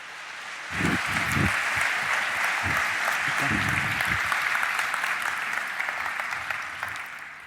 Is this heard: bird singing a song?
no